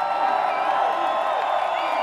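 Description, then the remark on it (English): A crowd screams and cheers in a steady, dense roar for the full two seconds, with high-pitched shrieks and whoops rising out of the constant wash of voices. “Y'all gotta scream a little bit louder.”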